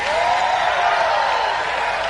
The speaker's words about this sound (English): Anybody righteous, hold your hand up and scream.